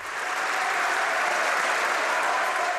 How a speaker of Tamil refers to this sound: கனடாவின் நாடாளுமன்ற கட்டிடத்துக்கு நுழைந்து தாக்கிய ஆயுதாரியை சுட்டுக் கொண்ட நாடாளுமன்ற படைக்கல செவிதர் கெவின் விக்கர் அவர்களுக்கு பாராட்டு தெரிவிக்கும் வகையிலான கரகோஷத்துடன் நாடாளுமன்றம் இன்று மீண்டும் ஆரம்பமானது.